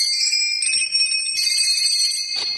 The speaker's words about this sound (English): He walked over to Santa's workshop, rang the bell.